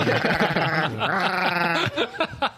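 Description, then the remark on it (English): A person imitates a goat with a long, wavering, nasal bleat that breaks into shorter quavering bursts, fairly loud, then trails off into a couple of brief chuckles. “Well, my animal that I was good at was a goat.”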